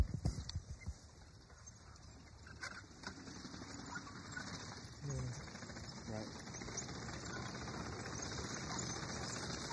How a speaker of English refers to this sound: Following low angle, horse is coming towards the camera.